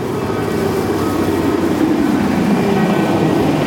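A cargo truck at the entrance of the Dom church idles with a steady, loud low rumble and a dense mechanical drone, unchanging for the whole stretch, with no voices over it.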